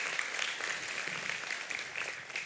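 Steady applause from a crowd, a dense rush of many hands clapping at once, sustained and fairly even in loudness with no voices standing out.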